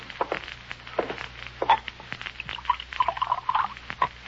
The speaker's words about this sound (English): There's the bottle on top of the dresser. Pour yourself a drink.